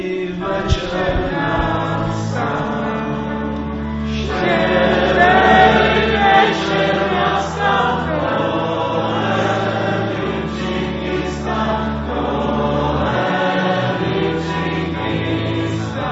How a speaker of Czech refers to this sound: To také děti z Ježkovy školy hned dokázali, když si s … zaspívali.